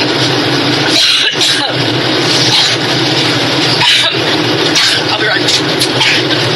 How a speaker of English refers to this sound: Well, that was Hillary Clinton per press conference there aboard her new campaign plane, interrupted by a coughing fit, the second coughing fit that she's had today.